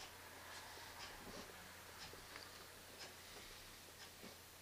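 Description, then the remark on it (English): A clock ticks softly at a steady pace during a silent pause in a sermon, each faint click evenly spaced over a low background hum, with no one speaking. “I can hear the clock ticking.”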